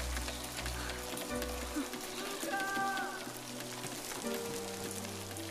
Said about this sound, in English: Afraid of a little rain?